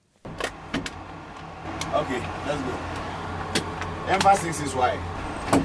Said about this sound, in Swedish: Ja, nu lämnar vi den här FN-basen i en bepansrad bil tillsammans med tre FN-soldater från Unifil, från Ghana är de allihopa. Och vi ska vidare till den blå linjen som det kallas, alltså gränsen mellan Israel och Libanon.